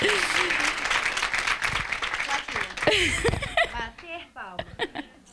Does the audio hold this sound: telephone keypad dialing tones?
no